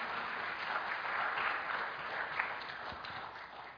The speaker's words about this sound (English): So let's give her a hand clap for helping us out.